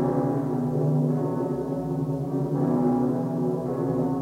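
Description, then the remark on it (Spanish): A church bell rings loudly, its deep, rich tones blending into a continuous humming resonance, with fresh swells of sound arriving every second or two and no voices. “La campana es música. Canta durante la fiesta, enaltece a Dios, enaltece la paz.”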